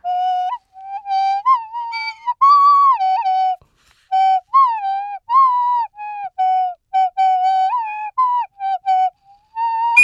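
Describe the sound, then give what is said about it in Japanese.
A flute played on a radio show, a halting, wandering tune of short separate notes and brief pauses, its clear mid-high tone fairly loud and bright with no talking over it. “うん、まあ笛吹き坊やですから。ノイズじゃないですよ、ラジオ聞いてるとね。”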